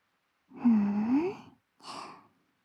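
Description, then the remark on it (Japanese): Two soft, close-up breaths exhaled right near the ear: a longer one lasting about a second with a slight voiced sigh, then a brief pause and a shorter, airy puff. “私の吐息、耳元で聞こえるから気になっちゃうんだね。”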